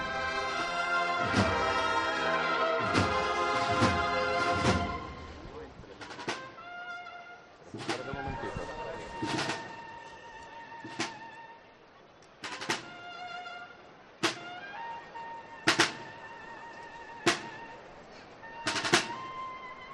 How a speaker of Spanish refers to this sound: Así suena la ….